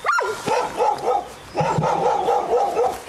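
Dogs bark in a rapid, repeated series of sharp, slightly yelping barks with a brief pause midway, loud, with no talking.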